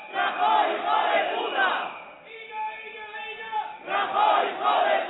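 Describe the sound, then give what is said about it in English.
About 100 metro workers chant loudly in rhythmic bursts in a metro station a few stops from central Madrid during transportation strikes, loading onto already packed trains, breaking off midway for a steady, sustained tonal drone before the massed shouting voices surge back. “In a metro station just a few stops from Madrid center, about 100 chanting metro workers loaded themselves onto already packed trains.”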